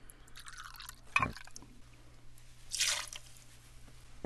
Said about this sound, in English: Take 2 ounces of that and put that in your mixing glass with your sugar that has the bitters. 2 ounces of the rye whiskey going into the mixing glass.